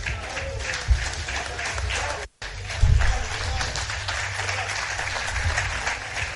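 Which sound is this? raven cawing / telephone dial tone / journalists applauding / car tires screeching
journalists applauding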